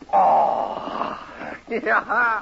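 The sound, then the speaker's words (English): A man's voice imitates a cougar howl: one long, rough, drawn-out cry, loud, followed by a few shorter voiced sounds. “Hey, hear the cougar howl tonight.”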